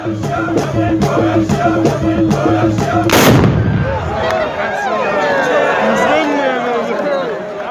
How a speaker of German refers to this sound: Da waren Männer zu sehen in traditioneller Bekleidung. Und mit einem Gewehr, aus dem es sehr oft geknallt und geraucht hat.